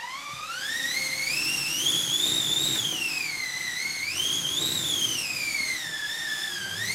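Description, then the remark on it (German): A wind machine, a wooden drum like that of an old washing machine with cloth stretched over it, is turned so the drum rubs against the cloth, making a whistling, airy roar that rises and falls in pitch in slow waves, with no talking over it. “Und wenn ich die Trommel drehe, dann reibt diese Trommel an dem Stoff und das klingt dann so.”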